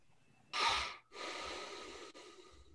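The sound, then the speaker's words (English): Airy breathing picked up by an open microphone in an online meeting: a sharp inhale, a brief pause, then a long exhale, with low thumps and faint hum beneath and no talking. “I hear the breathing.”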